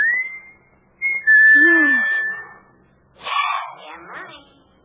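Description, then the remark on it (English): A man whistles a signal: a rising note held briefly, then after a pause a longer, steady high whistle, clear and fairly loud, followed by a short burst of voice-like sound. “When he used to roll to the bottom of the hill and wait for you, and you could stand in the orchard until you heard him whistle.”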